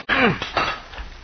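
A sledge or crowbar strikes a steel rail with a loud, sharp metallic clang whose ringing tone slides downward, followed by a couple of quicker, softer knocks and scraping that fade away, as two men rip rails from a railroad right-of-way.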